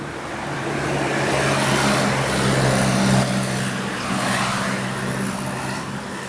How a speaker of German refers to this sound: Also besonders unfrei finde ich mich bei den Geräuschen im Straßenverkehr, weil dann fahren so Autos vorbei und dann fühle ich mich so unfrei und ich fühle mich auch irgendwie nicht so sicher.